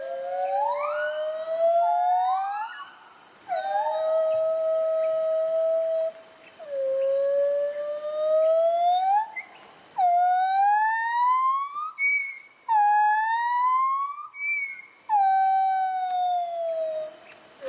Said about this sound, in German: Genau, und wir haben so ein kleines Duett für euch dabei, das wollen wir euch nicht vorenthalten. So klingen singende Gibbons.